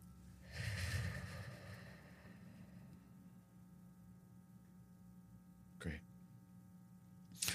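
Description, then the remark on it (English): A long, deep breath, taken in through the nose and out through the mouth as a breathing exercise, swelling then fading, followed by quiet stillness and a couple of short, soft breathy puffs near the end. “Breathing with another person.”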